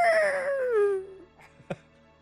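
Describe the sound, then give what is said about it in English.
A single drawn-out, puppy-like whimpering howl from a basement slides steadily down in pitch for about a second before fading, followed by a brief soft knock. “It kind of sounded like a puppy.”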